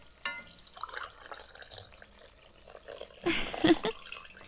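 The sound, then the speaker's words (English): Freshly made coffee is poured into a cup in the morning: a short burst of splashing, gurgling liquid that rises and then trails off, after some faint clinks and low background movement. “Coffee is already made. Here, let me pour you a cup.”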